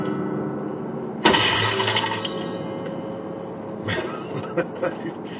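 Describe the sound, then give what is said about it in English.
A foot crashes through the strings of an antique acoustic guitar: a sudden loud crash of wood and strings, then a jangling, ringing resonance that slowly fades, with a second, softer clatter and a few small knocks near the end. “Did you see the way my foot went right through the strings and crashed into the guitar?”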